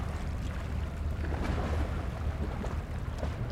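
Waves of the Øresund wash up on the beach beside Kronborg, Denmark, and draw back, in a steady, rumbling roar with a heavy low end and a hissing spray on top, continuous throughout with no voices.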